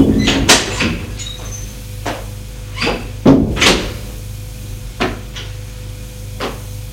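An office door opens as a woman enters her father's office, with a series of short wooden knocks and creaks, several sharp transients scattered over a few seconds against a low steady hum, with no voices.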